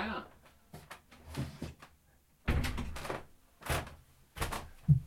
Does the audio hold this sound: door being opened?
yes